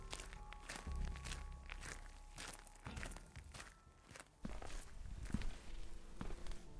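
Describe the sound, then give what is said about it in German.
Slow, heavy footsteps of a person walking through an abandoned house tread across a hard floor, each step ringing out with a hollow echo off bare walls, steady with no voices. “Einsam hallen die Schritte von den kahlen Wänden wieder.”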